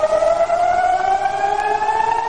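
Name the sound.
air raid sirens wailing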